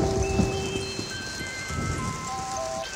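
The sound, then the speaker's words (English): Steady rain pours down in a dense, continuous hiss with scattered droplet patter, while thin tonal notes drift faintly above it. “It's raining, it's pouring.”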